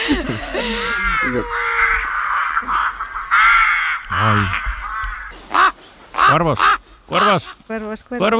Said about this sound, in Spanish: Cuervos.